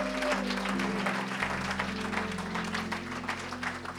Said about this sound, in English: Amen. Clap your hands to the Lord. Would you do that? Amen. He's so good.